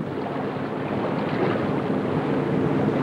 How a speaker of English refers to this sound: Now Ryder's sleek yacht motors through a channel toward the ocean.